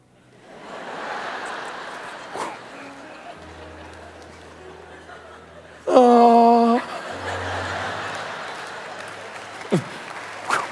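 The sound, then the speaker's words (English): An audience claps in a steady, dense wash, with scattered laughter mixed in. A brief loud buzzing tone cuts through midway before the clapping carries on. “I know you guys are clapping.”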